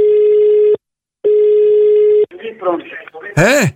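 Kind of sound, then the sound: signal or alarm, telephone line tones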